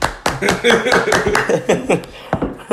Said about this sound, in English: You know, they actually probably, the listeners probably think we were just like smacking cheeks right there. They don't really know that we were clapping hands.